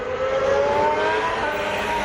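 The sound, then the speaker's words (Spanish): The engine of Carlos Sainz's new Williams FW46 Formula 1 car, on his debut in it, screams steadily and loudly, its high-pitched whine climbing slightly as it revs, with no voices over it. “Terminó el Mundial de Fórmula 1 con Carlos Sainz segundo en Abu Dhabi y Sainz ya sabe cómo es nueva o cómo suena su nuevo coche.”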